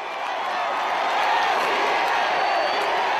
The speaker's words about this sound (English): At his closing campaign speech last night, a huge crowd was already calling López Obrador presidente.